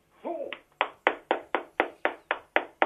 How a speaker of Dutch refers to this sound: Laat ze maar allemaal klappen, joh.